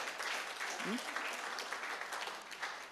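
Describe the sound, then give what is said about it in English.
An audience claps their hands in a sustained, dense burst of applause, steady and fairly loud throughout, with a brief voice faintly rising underneath near the start. “Give a big hand clap to their sisters.”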